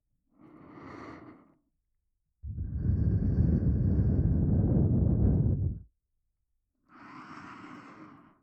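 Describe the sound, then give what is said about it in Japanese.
Three breaths blown into the ear: a soft airy exhale, then a long, loud, rushing blow with a rumbling wind-on-microphone quality, then another soft breathy puff. No one speaks. “ご主人様はこんな風に突然耳に吐息を吹きかけられるいたずらをされたことがありますか。”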